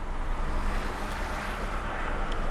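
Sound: rain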